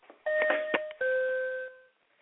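An airplane seatbelt sign chime: two clear electronic tones, a higher bright ding followed by a lower sustained tone that rings out and fades, heard alone.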